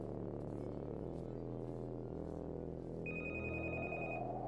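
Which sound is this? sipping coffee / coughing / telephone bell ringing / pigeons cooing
telephone bell ringing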